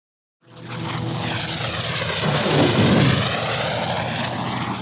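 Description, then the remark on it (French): An airplane engine drones loudly and steadily after a sudden start, swelling slightly as it passes, with a broad roaring hum and no voices. “Nous, on voyage en avion.”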